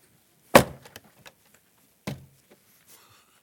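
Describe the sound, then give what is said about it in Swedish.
A door with the word 'profetiskt' (prophetic) written on it is shut with a sharp, loud thud, followed by a few small clicks and rattles, then a second softer bang as it settles closed. No one speaks. “Nu är den stängd.”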